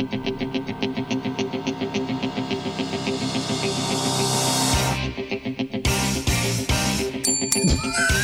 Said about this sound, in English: I knew that the bell was coming. Yeah, get your gloves on, people.